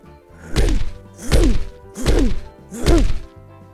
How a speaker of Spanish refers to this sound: ¿Ruido de pasos? Ya sé, esa debe de ser la abuelita. Pero no es la abuelita, ¿qué va? Es otro monstruo que estaba en la habitación de al lado.